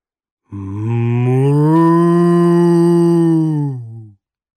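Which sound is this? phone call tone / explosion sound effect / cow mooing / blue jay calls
cow mooing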